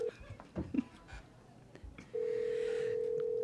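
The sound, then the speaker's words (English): A steady, clear phone ringback tone from a call to a grandmother starts partway through and holds unbroken to the end, following a few faint handling clicks and rustles with no talking. “I don't know if she's gonna pick up.”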